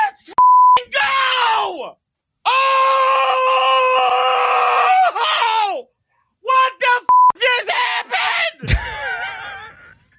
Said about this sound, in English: beeped it out because, well, we had to.